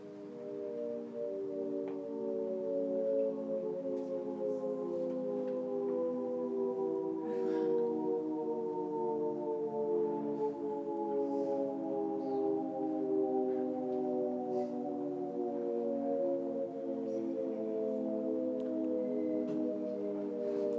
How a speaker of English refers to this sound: there are also auditory illusions. So this is one of my favorite ones. It's called the Shepard Rissé tones. It's probably a sound that you've heard before. I'll just play it.